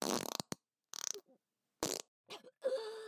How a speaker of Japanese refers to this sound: こんなおならなんかに負けるわけには。